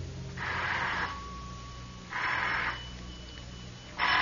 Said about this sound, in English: Somewhere out of a foggy dream, a telephone is ringing.